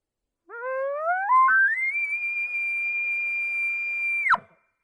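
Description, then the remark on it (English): A person imitating an elk bugle without growl: a pure whistling tone that climbs steadily in pitch, holds a long high shrill note for about two seconds, then cuts off abruptly. No talking. “Without any growl, without any voice in that, this is what the bugle is going to sound like.”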